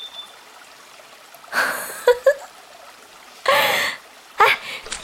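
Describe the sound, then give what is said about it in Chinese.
Feet splash through shallow water in three separate bursts of sloshing, with a couple of sharp drips and slaps in between, as someone stomps in the water for fun at a fishing spot. The splashes are fairly loud, and no one speaks. “哎，你快点过来跟我踩踩水嘛，特别好玩。哎呀，溅到衣服上再洗嘛。”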